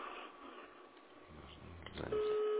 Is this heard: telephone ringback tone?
yes